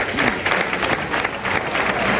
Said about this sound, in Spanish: Bueno, en este momento pasa por debajo nuestra y escuchen la ovación del público.